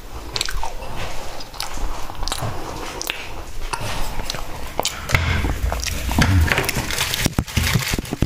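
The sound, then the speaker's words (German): Crunchy cookie being bitten and chewed, with repeated sharp crackling crunches at an uneven rhythm over moist mouth sounds, fairly loud and steady throughout with no talking. “So viel zum Thema Keks.”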